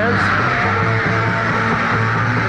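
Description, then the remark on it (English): A dense, roaring wall of concert crowd shouting and screaming at the Hollywood Bowl while a band performs on stage, at steady loudness, with faint hints of music buried underneath. “I don't know if you're able to distinguish any of the sounds other than the shouting”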